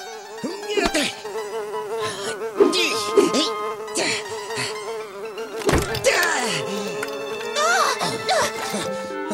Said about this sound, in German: Blödes Vieh. Du schlägst ja mein ganzes Zimmer kurz und klein, wegen einer blöden Fliege.